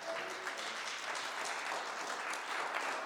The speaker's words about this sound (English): You can applaud, yes.